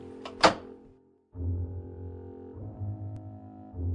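The back door of a bungalow being unlocked with a spare key gives one sharp, solid clunk, followed by a brief hush and then a low, steady droning hum that carries on to the end.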